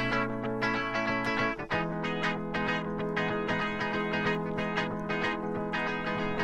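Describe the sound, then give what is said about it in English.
A clean, undistorted electric guitar plays a muted, choppy riff in a steady repeating rhythm, with a brief pause near the start before the pattern continues, loud within a full musical mix. “So that's your guitar tones.”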